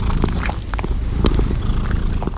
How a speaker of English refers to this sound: How do cats purr?